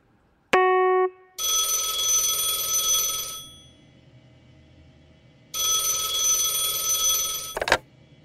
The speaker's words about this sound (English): ring. Someone's calling for Noah. Down there, on the phone.